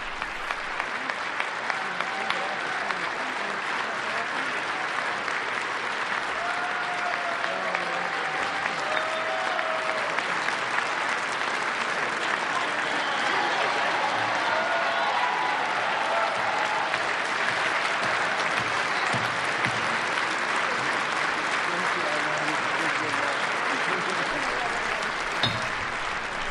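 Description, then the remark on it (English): Sustained applause from a large audience at the swearing-in ceremony of David A. Paterson in the State of New York, before Judith Kay administers the oath of office. A dense, steady wash of clapping holds at an even, fairly loud level throughout, with faint voices murmuring underneath. “Judith Kay will be administering the oath of office as soon as the applause dies down.”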